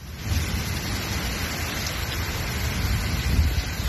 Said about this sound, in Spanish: Así sonaba en la tarde de este martes Castellón, donde en cuestión de minutos cambiaban el calor abrasador por una lluvia que ha llegado a arrastrar coches por calles completamente anegadas tras recibir más de 50 litros por metro cuadrado